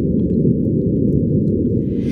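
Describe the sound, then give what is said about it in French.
Martian wind on Mars picked up by the French microphone on the SuperCam instrument aboard the rover: a steady, loud, low rumbling roar with no speech, joined near the end by a thin rising hiss. “et on a pu entendre les sons enregistrés par le microphone français installé sur Supercam, un des principaux instruments à bord du rover.”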